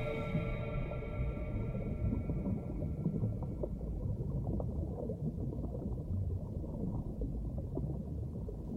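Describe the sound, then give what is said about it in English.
Sustained, high song tones of huge whales ring out over a dense underwater rumble, gradually fading after a few seconds while the murky, churning water noise continues to the end. “Huge, singing, singing, seeing us clearly as they sing.”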